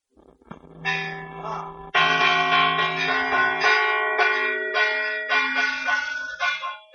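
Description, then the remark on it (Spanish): Church bells peal loudly in overlapping strikes, each blow adding bright, sustained metallic tones that hang and blend into a continuous ringing wash. “Ya lo escuchan, hoy vamos a hablar de campanas, y es que son muchas las localidades que siguen contando hoy en día con un campanario, con una campana, pero a diferencia de lo que ocurría años atrás, apenas quedan personas encargadas de hacerlas sonar”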